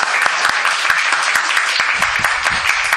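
audience clapping loudly

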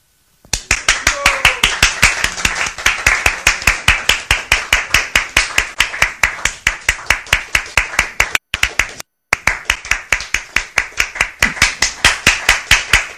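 audience clapping

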